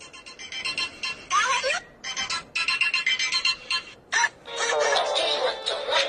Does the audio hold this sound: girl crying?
no